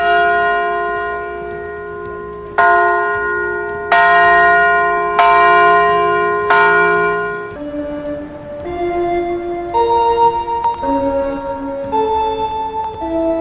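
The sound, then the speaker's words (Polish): A large peace bell is struck four times in slow succession, each loud clang ringing on with a long shimmering tail, followed by softer bell tones at shifting pitches. No one speaks. “Za moment uderzenie w dzwon pokoju.”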